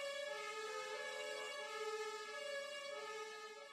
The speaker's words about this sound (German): Trotz Martinshorn, es bleibt friedlich an diesem Abend in Neukölln, auch in den Teehäusern und Shisha-Bars.